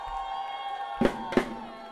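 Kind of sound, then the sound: crowd, audience cheering and shouting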